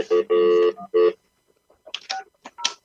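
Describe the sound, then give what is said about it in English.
Three quick touch-tone dialing beeps, steady and clear, the middle one held longer, followed by a pause and then a brief stretch of someone talking. “Let me call the guy.”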